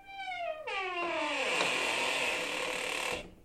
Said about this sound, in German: Als sie sich umdrehten und losgehen wollten, öffnete sich, wie von Geisterhand, plötzlich die Tür.